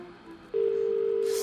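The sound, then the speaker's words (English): Brief quiet, then a phone line tone switches on: a steady, clear electronic hum that holds without a break to the end as a phone call rings out to return missed calls. No one speaks. “Better ring her.”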